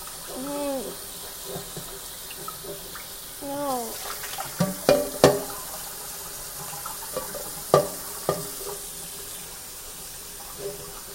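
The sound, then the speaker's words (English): Hot water runs steadily from a tap into a sink, a continuous hiss, with brief talking early on and a few sharp clatters and knocks in the middle. “The water is hot.”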